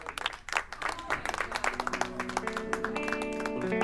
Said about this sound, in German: Einige klatschen Beifall.